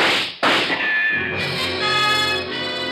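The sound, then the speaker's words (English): Two sharp gunshots from a gun barrel behind a picture on the wall crack out about half a second apart, followed by a loud, sustained ringing musical swell that holds steady to the end. “The slugs tear into the rug beside us.”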